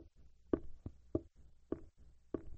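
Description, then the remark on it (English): Steady knocking on a door, a series of dull thumps at an even pace, louder raps alternating with softer ones, fairly quiet and with no voices. “What's that? He's at the door. There's somebody there.”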